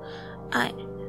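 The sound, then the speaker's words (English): A single short, shaky gasp of breath from a man rubbing his eyes with his hands, moderately loud, rising briefly above a faint steady background hum before fading out. “He drops his hands back over his eyes and rubs them, taking a shaky breath.”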